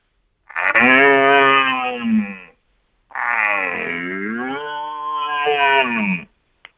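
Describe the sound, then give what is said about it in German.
Two long, loud roaring bellows, each about two seconds, with a brief pause between. A human voice, likely through a call horn, imitates a young red deer stag's rutting roar, rich and slightly higher-pitched, higher or louder than an old stag's roar. “wenn das zu intensiv und zu laut und zu alt ist, dann macht man einen jüngeren Hirsch nach. Das mache ich mal kurz. Etwas höher oder lauter wie der alte Hirsch.”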